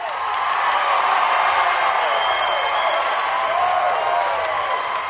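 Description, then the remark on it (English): A crowd packed into the Tower Theater in Bend roars and cheers as they watch Eaton cross the finish line in the final 1,500-meter race of 10 events, a dense wash of shouting voices and applause that stays loud and sustained throughout, with a few higher whoops rising above the din. “A crowd packed into the Tower Theater in Bend to watch as Eaton crossed the finish line in the final 1,500-meter race.”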